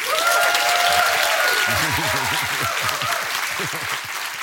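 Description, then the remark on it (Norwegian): A loud burst of big applause with cheering and whooping voices rising over the steady clapping, a full crowd sustained throughout. “Du skal få en jubel ja, og en stor applaus.”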